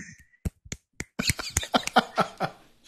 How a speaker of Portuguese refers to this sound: Não, é poesia, tem que aplaudir estalando o dedo.